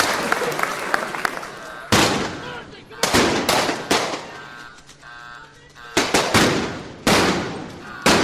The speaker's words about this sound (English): Wait, what's going on out here? What's all this shooting and stuff? What is this? Some kind of gunfire?